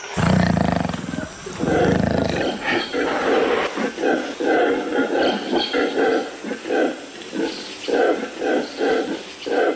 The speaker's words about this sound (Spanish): Ha molestado a un grupo de monos aulladores. Sus llamadas se oyen a muchos kilómetros de distancia. Las usan para proteger su territorio.